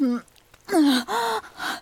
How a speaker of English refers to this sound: You know how miserable you sound gasping for air?